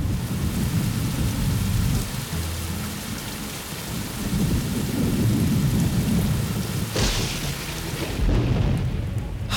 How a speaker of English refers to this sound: Let's go, everyone! The big storm is here.